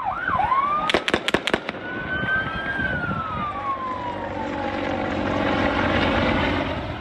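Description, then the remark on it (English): A quick burst of about five sharp gunshots rings out close together at Kabul airport, Afghanistan, cutting through the steady roar of a US plane's engine as it taxis to take off, with shrill whistling tones and a noisy crowd of desperate Afghans in the background. “When Chinook helicopters couldn't clear the crowd, shots were heard.”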